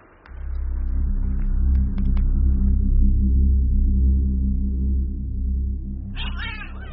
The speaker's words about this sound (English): Grebo, come back, you cantankerous old cat. Why did you jump off you like that, Nanny Og?